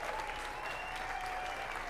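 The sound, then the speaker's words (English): An audience applauds a guitarist from Houston, Texas, as a band is introduced, a dense wash of many hands clapping at an even level for about two seconds, with no distinct voices standing out. “Everybody, big round of applause for David from Houston, Texas.”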